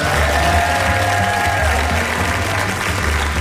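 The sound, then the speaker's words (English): An audience claps steadily in answer to the performer asking how many Democrats are in the audience, a dense, even wash of many hands with a few scattered cheers mixed in, sustained at full loudness throughout without fading. “By your applause, how many Democrats do we have in the audience today?”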